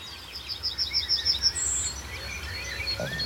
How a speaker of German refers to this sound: Vielleicht hört man in der Ferne die Ringeltauben und die Amseln sind weniger geworden. Pirole sind deutlich zu hören. Goldammern, neben Kontergesang und immer noch der Berufsverkehr.